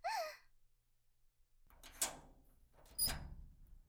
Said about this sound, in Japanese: お？今の音。わ、見て、扉が開いてる。